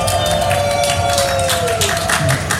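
Loud, dense audience applause fills the whole stretch, a steady crackle of many hands clapping, with cheering and a sustained whistle-like tone that slowly slides downward, as two psytrance DJs who will play the main stage are welcomed.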